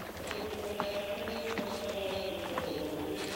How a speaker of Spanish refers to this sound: Es un grupo de monjes a caballo que llevan antorchas en sus manos. A la cabeza de ellos, cuatro religiosos llevan un cadáver sobre una litera.